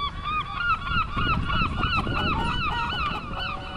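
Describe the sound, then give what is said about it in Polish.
A flock of seagulls that has flown in to a farm calls nonstop, many overlapping harsh cries layered close together over a low rumbling background, loud, with no one speaking. “Do gospodarstwa na kilka dni przyleciały mewy.”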